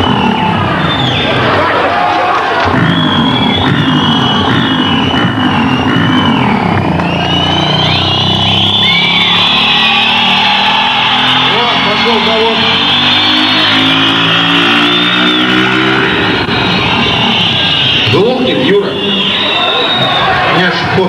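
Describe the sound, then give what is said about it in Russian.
A small motorcycle engine revs, its whine climbing steadily in pitch for several seconds, heard amid a noisy crowd with people talking and a constant loud background din. “Ну понятно, на каком моторе-то летает? Моторчик какой-то этот.”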